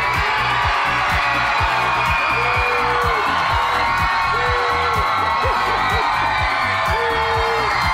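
A large crowd at the 2009 Ugly Dog contest in Sonoma County, California, cheers loudly and steadily for their favorite dog, with clapping throughout and scattered high whoops and yells rising above the roar.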